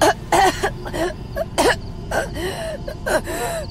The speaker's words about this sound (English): Suddenly, she started coughing.